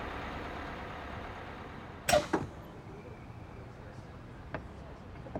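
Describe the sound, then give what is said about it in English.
A steady low engine rumble fills the scene, broken by a sharp hissing burst and a quick follow-up release as a bus brakes to a halt in front of a hotel on a busy street in Edinburgh, with a fainter click a couple of seconds later. “The bus stopped in front of a hotel on a busy street.”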